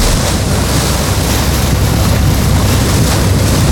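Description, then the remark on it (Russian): Loud, unbroken roar of wind and sea spray out on open water off Iturup island during the fishing season, with a low rumbling undertone like a small fishing boat's engine, constant throughout and no voices. “И сейчас, когда мы находимся в море, он тоже виднеется вдалеке и тоже наблюдает за тем, как сейчас идет путина.”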